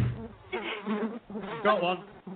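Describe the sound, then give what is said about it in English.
A fruit fly buzzes near the microphone, its whining drone rising and falling in wavering bursts, loud and continuous for a couple of seconds with no talking. “Oh, she has bloody fruit flies about. Can't get rid of them.”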